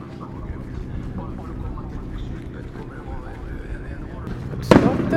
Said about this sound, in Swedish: Där gick startskottet för de mindre båtarna.